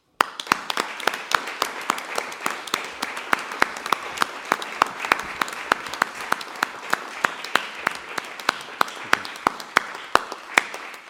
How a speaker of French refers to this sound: Monsieur le Président, aux applaudissements nourris et qui eussent continué si nous n'aviez pas fait signe de les arrêter à un moment